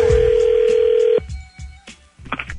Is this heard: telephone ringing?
yes